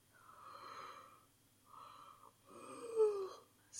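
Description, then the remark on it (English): A man gives a great, long, drawn-out yawn, fairly soft, breathy and voiced in three swelling stretches with a brief catch near the end. “He gives a great yawn.”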